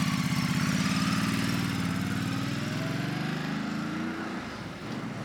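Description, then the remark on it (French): A small, just-repaired motorcycle engine is started at a motorcycle repair garage in Yuwaru and runs loudly, a steady rapid putter that climbs slightly in pitch, then eases and settles lower near the end. No one speaks. “Ici, vous entendez le démarrage d'une moto que vient de réparer Ibrahim Diko.”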